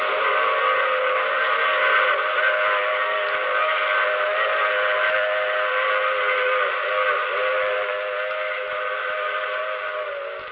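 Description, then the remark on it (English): A steam train whistle blows in one long, unbroken wail, loud, its layered chord-like tones held steady for about ten seconds before easing slightly at the end. No voices. “Oh, you have to get off here, I'm sorry. But I'm sure we'll meet again. I take this same train every week at this same time.”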